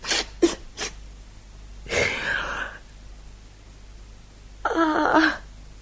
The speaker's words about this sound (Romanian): Îmi suflu nasul și gata.